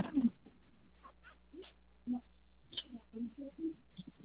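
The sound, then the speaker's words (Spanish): Dogs at home whimpering and giving short yelps, a scattering of brief high whines and bursts at low volume, with faint background voices and a steady low hum. “escuchan los perros, a mis hijos.”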